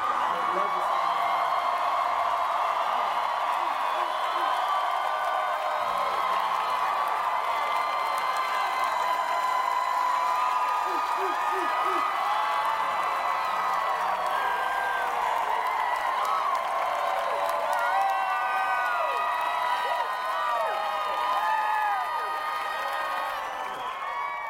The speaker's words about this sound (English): So there definitely was a crowd, an excited crowd there, and I just like you hearing that